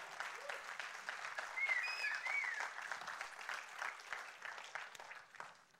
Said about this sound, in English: Go ahead. Now you can applaud.